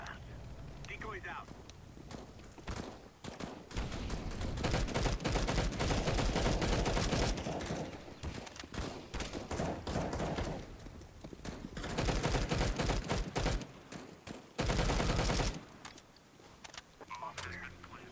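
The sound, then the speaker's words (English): Rapid automatic AK rifle fire from a video game rattles in long, loud sustained bursts with brief pauses between volleys, dense, with voices faintly underneath at times. “Yeah, that AK's on.”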